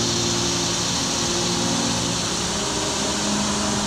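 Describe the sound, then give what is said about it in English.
A dense, steady chorus of cicadas buzzes loudly and without pause in the trees overhead beside a creek, a shrill high-pitched drone over a faint low hum, with no voices. “Listen to the sound of the cicadas in the trees, loud overhead.”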